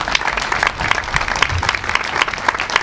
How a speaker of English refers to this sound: I think you can hold up on your applause until we say all the names.